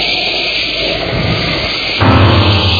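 A thunder sound effect: a steady, noisy rumble that suddenly swells louder and deeper near the end, with heavy low-end roar and no voices.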